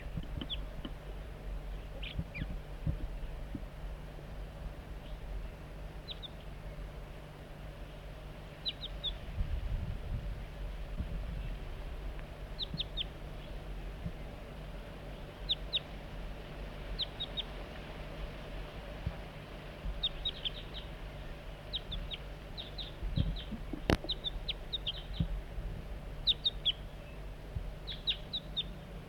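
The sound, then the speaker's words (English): Short, high-pitched chip calls from a wild juvenile crossbill repeat in loose clusters throughout, faint against a steady low hum and background noise, with one sharper click near the end. “Start recording juvenile.”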